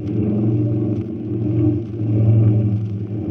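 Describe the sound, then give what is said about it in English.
A heavy aircraft engine drones steadily as the plane comes in low over a fence to land, a deep rumbling hum with slight swells in loudness, no voices present. “we came in low over the fence, all right. In fact, we even took a piece of the fence with us.”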